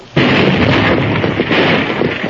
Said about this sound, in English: Blasting powder, Marshal. You! The explosion blasted the dam between this water gap and dry gulch.